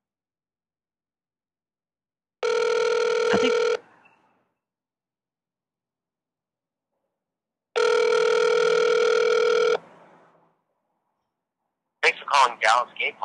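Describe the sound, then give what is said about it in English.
A phone call to a listener line rings through: two long, steady ringback tones separated by a few seconds of silence, then a voice picks up as if a voicemail greeting begins. “Saved by the dial, honey.”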